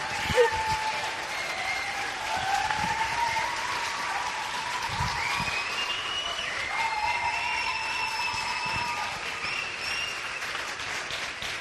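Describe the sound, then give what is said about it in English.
An audience applauds Sunita Williams after a radio contact with the ISS, in a steady, dense wash of clapping that holds at an even level for about twelve seconds, with faint thin tones drifting above it. “Let's give a big applause to Sunita Williams.”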